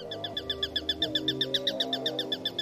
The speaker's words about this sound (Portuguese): É uma ave que vive em densas zonas florestais e, por tal, o seu avistamento é, na maior parte das vezes, fugaz. Mas insistimos em ver e ouvir o gavião.